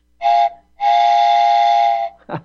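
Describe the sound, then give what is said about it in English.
A whistle taken off an HO scale model train layout blows twice, a short toot then a longer steady hoot, shrill and breathy with a hissing edge, loud, followed by a brief clatter. “I just had to take that off my son's HO train layout. This is the Trump train.”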